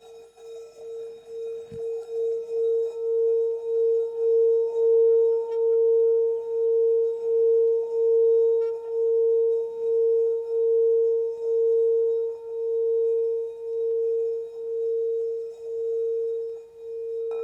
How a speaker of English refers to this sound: I'm now going to sound the gong to take us out from the meditation.